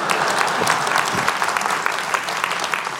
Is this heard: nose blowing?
no